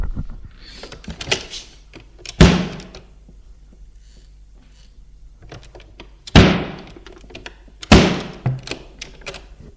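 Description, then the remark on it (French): Three loud, sharp door slams from the neighbours' home ring out a few seconds apart, the last two close together, with smaller clunks and knocks in between and no voices. “Des portes qui claquent.”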